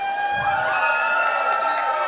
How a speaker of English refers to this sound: I thought I'd hear more screaming from you guys.